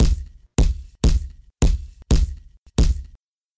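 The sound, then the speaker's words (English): Six heavy, thudding punches land on a body in a steady rhythm, each a loud, dull smack with a booming low end that quickly fades. No one speaks. “Are you pulling your punches?”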